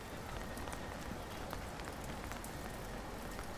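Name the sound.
rain falling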